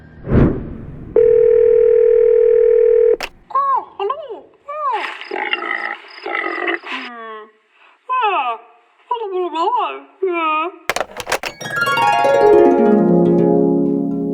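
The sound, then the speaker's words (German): A steady, unbroken telephone dial tone hums for about two seconds after a brief burst of noise, then gives way to a string of warbling, chirping electronic sounds and a rising sweep, as an outgoing call is placed to the Museum für Naturkunde Berlin. “könnten wir doch mit Bonnie vom Museum für Naturkunde Berlin telefonieren.”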